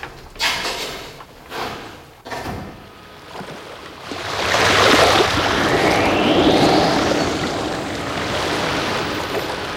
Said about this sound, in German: Leichtes Vibrieren ließ das U-Boot erzittern, als es sich in Bewegung setzte.